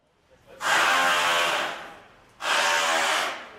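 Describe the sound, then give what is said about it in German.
Construction work at an old concrete-grey flak bunker in St. Pauli, where a hotel is being added: a loud power tool whirs in two sustained bursts of about a second and a half each, separated by a brief pause, with no voices. “Es geht voran mit den Bauarbeiten am alten betongrauen Flakbunker.”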